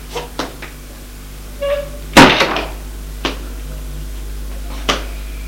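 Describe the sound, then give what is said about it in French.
A few soft footsteps, then a sharp knock-like bang on a bedroom door, followed by the clunk and creak of the door opening as someone enters, and a couple of scattered thuds. “Des pas. Frappe à la porte. Entre. Il entre.”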